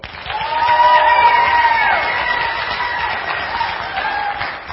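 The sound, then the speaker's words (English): A large crowd bursts into sustained applause with cheering and whoops, loud and dense, holding steady for several seconds before tapering slightly at the end. The crowd is clapping for option number one while a small device measures the loudness, reaching 105.7. “When we go to number one, clap, and I'm going to use this little device to tell me who the loudest clap is for.”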